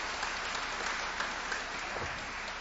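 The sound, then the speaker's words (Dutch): An audience at a committee meeting claps steadily, a dense, even wash of many hands with no voices over it, holding at a constant moderate level throughout. “Ik betreur dat mijn verzoek om u te onthouden van applaus niet gehonoreerd wordt.”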